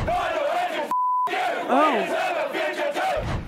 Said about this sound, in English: so they got the chant. Let's go through some of their chanting. They were right on the mark.